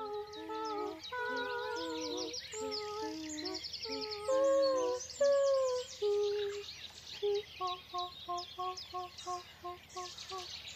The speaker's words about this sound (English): took part in the BBC's celebration of International Dawn Chorus Day. As the birds sang, they sang back.